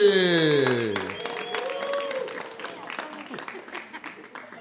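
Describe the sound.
A loud, drawn-out voice sliding downward in pitch opens briefly. Then an audience breaks into dense, steady applause for the next performer being introduced, which carries on through the rest and gradually softens toward the end.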